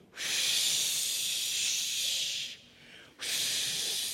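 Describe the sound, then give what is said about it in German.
A voice imitates blowing wind with two long, breathy hisses, the first lasting over two seconds, then a brief pause before the second whoosh starts. Fairly loud, with no talking. “Wie klingt der Wind? Der Wind klingt so.”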